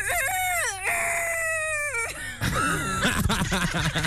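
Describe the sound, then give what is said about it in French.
A woman in Belgium mimics a rooster crowing: a loud, drawn-out, wavering call that rises and dips for about two seconds, followed by a burst of excited, jumbled vocal sounds. “Et ma copine elle fait le coq.”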